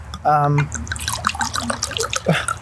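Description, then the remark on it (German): Wine glugs and trickles as it is poured into a glass, with a short steady tone at the start followed by irregular gurgles and small splashes. No distinct cork pop stands out. “Zack, lassen wir den Korken knallen. Dein Gläschen.”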